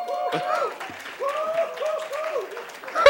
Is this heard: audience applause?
yes